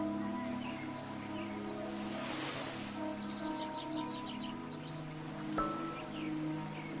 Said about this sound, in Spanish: El sonido del agua corriendo por los arroyos y cayendo más adelante como cascada.